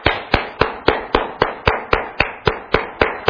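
Steady rhythmic clapping in a church, applauding kids who performed, about four sharp claps per second, evenly spaced, with no voices over it. It sounds like one pair of hands rather than a crowd.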